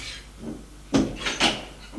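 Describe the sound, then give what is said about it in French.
A door swings shut with a brief wooden scrape, then two solid knocks about half a second apart as it bumps and latches. A woman is closing the door. No one speaks. “Elle ferme la porte.”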